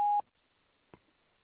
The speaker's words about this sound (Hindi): This is my true collar voice mail. Please leave your message after the beep.